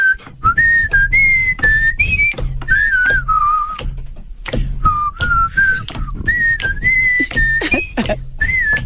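Someone whistles a song melody, the clear tone stepping up and down through short melodic phrases, broken now and then by brief sharp bursts of noise. No one speaks.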